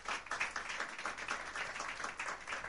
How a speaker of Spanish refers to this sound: Va a estar Lely Flores de Colombia, quien pide un fuerte aplauso.